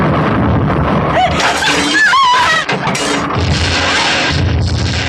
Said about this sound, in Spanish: En el vestíbulo del cual han salido, se produce una espantosa explosión, seguida de grandes llamaradas. Todo el pórtico parece elevarse como si perdiera la gravedad. Un terrífico estruendo de maderas, de muebles rotos, de piso desgajado se produce.